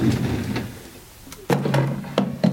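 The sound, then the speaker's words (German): Recorded footsteps, the steps of the Zentrale, played in an endless loop on a looping machine, thud out in a steady walking pattern, about seven dull, knocking steps with a brief lull in the middle, played on their own with no talking. “Und jetzt habe ich hier zum Beispiel gerade mal die Schritte von der Zentrale drauf.”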